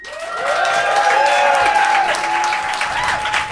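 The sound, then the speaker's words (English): A live audience in Phoenix applauds to vote on a debate: a steady, dense wash of clapping from many hands, loud and sustained throughout, with a few high whistles and shouts threaded through the crowd noise. “would you please applaud now?”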